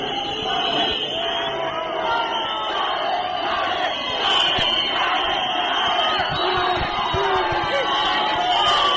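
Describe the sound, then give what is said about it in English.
A large crowd of hundreds of Morgan Tsvangirai's supporters cheers and shouts wildly without pause to greet him at his party's Harvest House headquarters in the Central Business District of Harare: a dense, loud roar of many voices with higher yells and whistles breaking through the din. “Tsvangirai arrived at his party's headquarters, located in the Central Business District, where hundreds of his supporters greeted him with wild cheers.”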